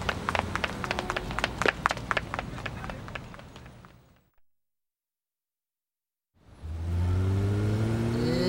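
Busy clattering and knocking noises fade into a brief silence, then a car engine starts up loud, its pitch climbing steadily as it revs and pulls away.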